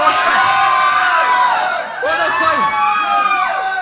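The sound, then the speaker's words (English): A crowd cheers for imprisoned activists John Parai and Harold Thompson, shouting loudly and continuously, many voices overlapping in rising and falling whoops, with a brief dip in the middle before the cheering swells again. “So nice to say a big cheer for John Parai.”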